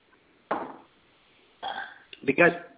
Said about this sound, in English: Because it's very, very hot here in Texas, humid, and I get thirsty sometimes. So I'm drinking water. I'm quenching my thirst, and I'm using it with water.